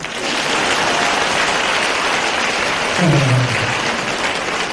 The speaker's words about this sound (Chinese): 鼓掌